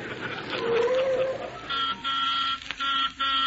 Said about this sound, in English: Driver, you didn't have to blow the horn.